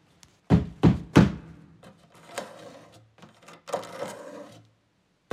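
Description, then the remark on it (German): Three loud, heavy knocks pound on a door at night in quick succession, followed by softer scraping and rattling bumps, and a final thud at the very end. “Es klopft und pocht, es kratzt und kracht.”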